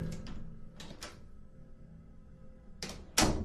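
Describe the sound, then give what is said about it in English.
A bathroom door in a building opens indoors with a few soft clicks and rattles early on, a quiet stretch, then two louder scraping, swinging bursts near the end. No one speaks. “As usual, I was on my phone while using the bathroom, and the bathroom door opens.”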